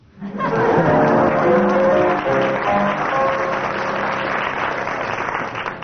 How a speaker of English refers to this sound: Judging from the audience applause, that deserves 6 marks.